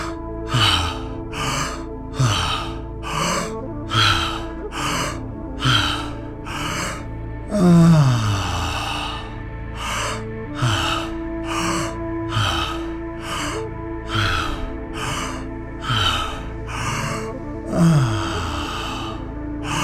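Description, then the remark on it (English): Rapid, rhythmic open-mouthed breathing during a guided breathing exercise, quick in-and-out puffs, broken once midway by a longer drawn-out breath, over a soft sustained musical drone. “Wide open mouth, breathing in and out through our open mouth.”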